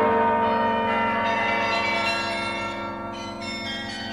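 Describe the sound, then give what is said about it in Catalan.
A loud, sustained clamor of church bells ringing together as the whole village celebrates a princess's 17th birthday, their overlapping tones and shimmering overtones filling the air continuously, fading slightly toward the end with no voices present. “Què és aquest rebombori de campanes?”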